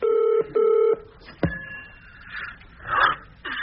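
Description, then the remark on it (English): A telephone rings at 6 o'clock in the morning in one short double burst of steady electronic tone, followed by a sharp click as if the receiver is picked up, then faint muffled rustling on the line. “Got your number from the paper. Hope you don't mind me ringing.”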